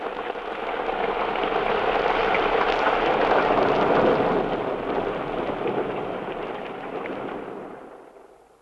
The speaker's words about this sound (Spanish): La lluvia. ¡Eso, la lluvia!